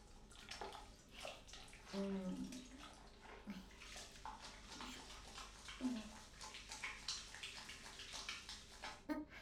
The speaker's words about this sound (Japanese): これ昨日買ったメッキンジャーの風呂桶。今こんなんあんだね。何にでもプリントしてあんじゃん。これでお湯をすくって、バシャー。